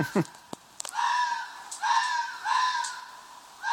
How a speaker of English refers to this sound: Special double issue sound effect two. Two foxes f***ing, and f***ing like they hate each other.